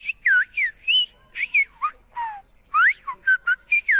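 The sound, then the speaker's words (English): A person on La Gomera in the Canary Islands, Spain, whistles a rapid, melodic sequence of short gliding notes with sharp rises and falls, a whistled language used for long-distance communication, loud and clear with brief pauses and no talking. “We would suddenly be kings, he says, because they'd be masters, once again, of the only means of long-distance communication, whistling the day's news and necessities, just like their ancestors.”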